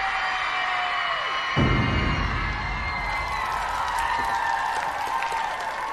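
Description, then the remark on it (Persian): A theater audience at the Rayperstan theater claps and cheers steadily after being asked to clap again, with whoops and high shouts riding over dense applause that swells slightly after the first second and continues throughout. “میشه دوباره برام دست بزنید؟”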